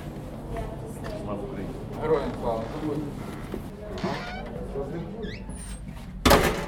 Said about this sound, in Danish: Nu åbner døren.